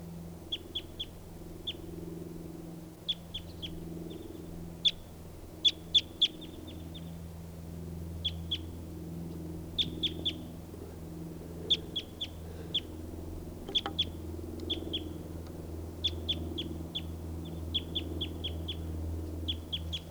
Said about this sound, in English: Hi, bird.